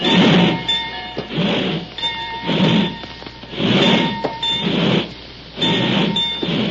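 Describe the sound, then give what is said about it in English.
A steam locomotive starts to roll as the train sets off for Beekman, with loud, slow, evenly spaced chuffs of steam about every second and a half over a steady hissing hum. No one speaks. “The red glow of leaping flames from the firebox etched out the rippling lines of power”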